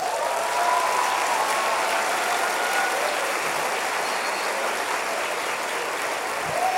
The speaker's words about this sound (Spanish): Le das un aplauso al Señor.